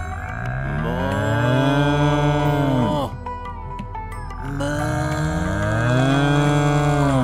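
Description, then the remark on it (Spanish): A person doing the cow yoga pose on all fours imitates a cow with two long, loud, drawn-out moos, the voice swooping in pitch, separated by a brief pause with a softer grunting sound in between. “Arc and open your chest. And moo like a cow.”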